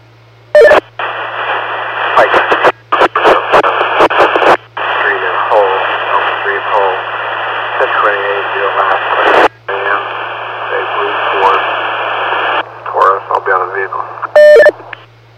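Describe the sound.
Crackly two-way radio transmission thick with static and hiss, cutting in and out with sharp clicks and bursts, a muffled voice buried under the noise and a steady low hum throughout.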